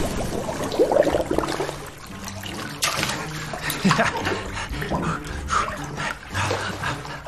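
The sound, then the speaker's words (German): Water splashes and sloshes around in a bathtub, with irregular bursts and dribbles that continue for several seconds without a steady rhythm. “Sparky, der Schweinswal, gefangen in der Badewanne.”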